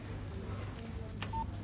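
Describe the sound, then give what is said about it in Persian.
A click followed by a single short, clean telephone keypad tone, heard quietly over a steady low background hum with no one speaking. “تلفن پسر از کیره؟”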